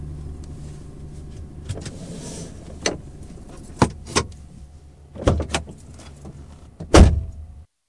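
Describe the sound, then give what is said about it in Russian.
A car rolls slowly to a stop as it pulls up to a gas station after leaving town, its low engine hum steady throughout, broken by several sharp clunks and clicks, the loudest near the end. “Да, и мы, кажется, к заправке подъезжаем.”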